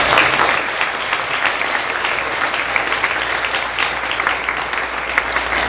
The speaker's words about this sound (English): I'd also like to give special thanks to St. George's, and especially Rector and Headmaster Father Norm Freeman. I believe is backstage. If we can all get a round of applause for Father Norm.